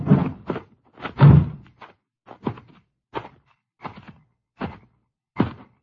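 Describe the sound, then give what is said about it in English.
A string of muffled thunks as car doors are shut gently, about eight soft closes at uneven intervals, the first couple heavier and the rest lighter, with no voices. “Close the car doors easy.”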